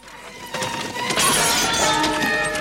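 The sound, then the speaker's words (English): The windowpane of a horse-drawn carriage shatters loudly as hands smash down on it during Holmes and Moriarty's struggle, a burst of breaking glass followed by a sustained spray of bright, tinkling shards that keeps crashing for a couple of seconds. No voices are heard. “Their hands smash down on the jagged, broken carriage windowpane.”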